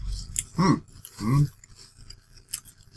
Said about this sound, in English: Okay, now we're eating the Superman cereal. Superman cereal, which is, what is it? Kryptonite. Caramel kryptonite.